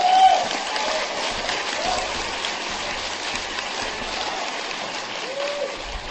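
An audience claps in a dense, sustained wash of applause that holds at an even level for several seconds, with no individual claps standing out and no clear speech.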